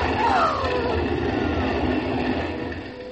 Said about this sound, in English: And here comes the fire engine.